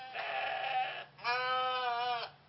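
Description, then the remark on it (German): Two long, wavering sheep bleats, one right after the other, fairly loud with a soft ambient hum underneath and no talking. “Beide streckten sich im Schatten der am Wiesensaum wachsenden Bäume nieder und überließen es ihren treuen Hunden, die Schafe zu bewachen.”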